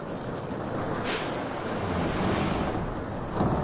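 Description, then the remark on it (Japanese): Heavy ocean waves surge and roar continuously as Godzilla surfaces, broad rushing swells rising and falling and tossing a ship, with some wind noise; no voices are heard. “なんという波のうねりでありましょう。船は波に翻弄されております。”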